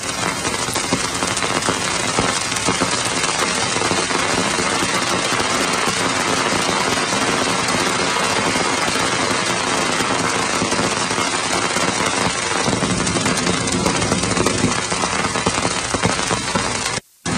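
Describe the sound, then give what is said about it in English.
A recording by the Cassini spacecraft's radio and plasma wave science instrument of ring dust striking it as it crossed Saturn's ring plane, northbound and then southbound: a dense, loud, continuous clatter of countless tiny impacts, like a hailstorm, cutting out briefly just before the end. “ring dust, in effect, produces this cacophony of sound reminiscent of a hailstorm.”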